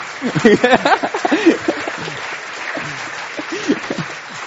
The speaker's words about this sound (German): Hey, da dürfen wir mal klatschen, oder? So.